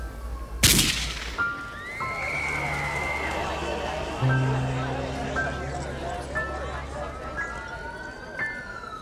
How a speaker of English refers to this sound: Then a gunshot rang out.